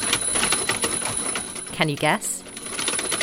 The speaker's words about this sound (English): It's the sound of a mechanised rubber arm slapping a sleeping woman in the face. This is the Wake Up Machine, a DIY wall-mounted robot that works in tandem with the alarm clock to activate the rubber arm, whipping it around and forcing the sleeper